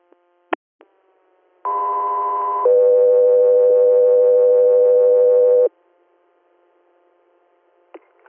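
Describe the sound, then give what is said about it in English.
A two-tone dispatch page for Echo 3 Air over a radio: a brief higher tone, then a longer, lower steady tone lasting about three seconds, framed by sharp clicks of the transmitter keying on and off. “Echo 3 Air, stand by for cones.”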